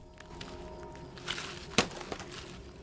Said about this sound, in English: There is really no point expecting a dormouse to be quiet. The sound of the broken branches and nuts crashing to earth echoes through the village, reaching the sharp senses of a tawny owl.